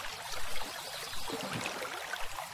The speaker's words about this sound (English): I already have some fish splashing around.